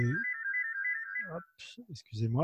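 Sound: telephone ringtone ringing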